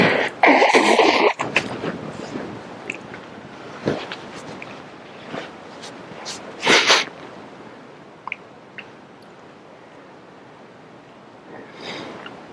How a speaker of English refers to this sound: Because if you think about it, excuse me while I blow my nose, forgive me.